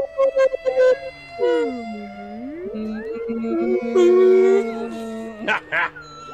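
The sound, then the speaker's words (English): People moan and warble in long, sliding tones, imitating whale calls for several seconds. The calls are fairly loud, with brief bursts of talking before and after. “Can we make whale sounds in honor of The Warmth?”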